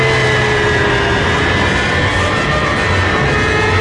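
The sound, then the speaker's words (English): A loud, steady engine roar of a solar-powered robot plane beginning a steep climb toward the stratosphere fills the entire moment, thick with rumbling noise and a high, sustained whine layered on top, unbroken, with no voices. “As the magnificent solar-powered vehicle begins a dizzying climb into the stratosphere, racing the armed might of the world's greatest nations to disaster.”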